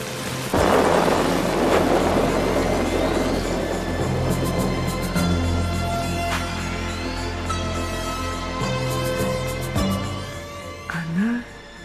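A thunderstorm: a loud thunderclap early on gives way to steady, heavy rain and low rolling rumbles, with occasional sharp cracks and faint sustained tones underneath.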